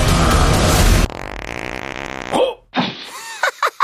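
A loud, dense burst of noise gives way to a long, buzzy, low fart that rasps steadily for over a second, then a few short vocal grunts and clipped bursts follow.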